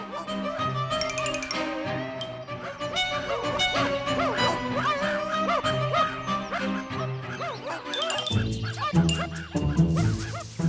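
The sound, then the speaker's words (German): A pack of four hunting dogs, arriving with a hunter, barks and yelps nonstop, their overlapping calls loud, forming a dense, excited chorus that shifts slightly in tone toward the end. “Indes kam ein Jäger mit 4 Hunden daher.”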